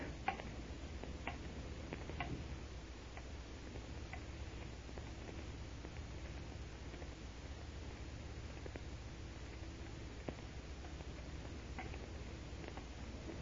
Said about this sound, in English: Is that clock right? Correct to the second. All right, leave me, leave me. Yes, sir. Tick tock. Tick tock.